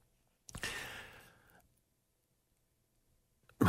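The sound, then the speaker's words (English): A single sharp cough that trails into a breathy, rasping throat clearing over about a second, then silence until a brief noise cuts in at the very end. “Just about to speak, and I cough.”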